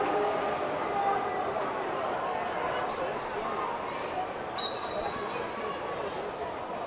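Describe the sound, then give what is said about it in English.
A large arena crowd at a wrestling event at the Giant Center in Hershey fills the air with a steady, dense murmur of overlapping voices and chatter, with a brief high-pitched squeak cutting through partway. “Good crowd on hand, as you hear the crowd in the background.”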